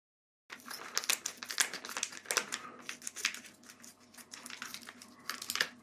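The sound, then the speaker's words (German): Crinkly plastic packaging rustles and crackles while being cut open with scissors, a run of irregular sharp snips and crumples lasting several seconds with no one speaking. “Sache ist jetzt halt immer, ich muss immer also das aufschneiden und die Schere funktioniert, glaube ich, nicht so richtig, wie ich möchte.”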